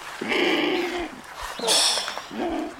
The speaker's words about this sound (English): Andean condors may not sound pretty, but in the blue skies over the Andes, they're majestic, one with the heavens.